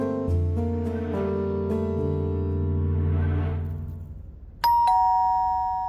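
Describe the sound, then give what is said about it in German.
An apartment doorbell chimes in a series of ringing tones that slowly fade, then rings again abruptly and louder near the end. No one speaks. “Ja, verdammt, ich hab das Klingeln gehört.”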